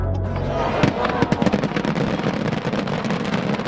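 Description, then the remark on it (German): A rapid barrage of fireworks bangs and crackling explosions shortly before a national holiday, dense and continuous, with sharp pops stacking over a rumbling low background. “Aber ums Feuerwerk herum kommt kaum jemand so kurz vor dem Nationalfeiertag.”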